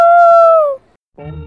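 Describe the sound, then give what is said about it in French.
A child's voice imitates a wolf howl: one loud, sustained tone that glides slightly downward, followed by a short pause and the start of more vocalizing. “Les loups, parce qu'ils sont noirs et blancs. Aouh!”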